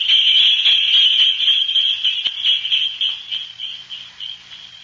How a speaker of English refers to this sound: Well, that was a cinch. Jingle bells and the good old wintertime.